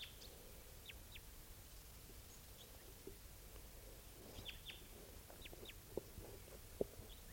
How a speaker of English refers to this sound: Wondering at the wild bird. 6:53 a.m. wild bird.